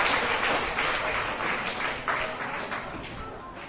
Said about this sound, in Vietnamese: Các cháu hãy dành tràng pháo tay để khen cho sự thông minh của mình.